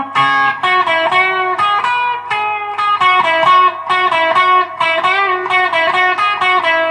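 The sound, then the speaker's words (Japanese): An electric guitar plays a busy run of sustained, overlapping notes, washed in reverb from a floor effects pedal that lets each note ring and blur into the next, with no one speaking throughout. “これなんかリバーブかかってんすかね、今ね。”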